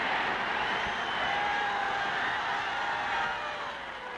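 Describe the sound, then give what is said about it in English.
A golf crowd roars with cheers and applause, running all over the place, after Lou Worsham holes a 120-yard wedge shot for an eagle to win. The noise is a dense, continuous wash that holds steady for several seconds before easing slightly at the end. “The crowd is running all over the place.”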